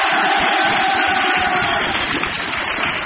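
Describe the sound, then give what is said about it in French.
A large audience applauds and cheers loudly and continuously, a dense wash of clapping with excited shouts mixed in, filling the whole stretch without pause. “Waouh, on l'applaudit très fort!”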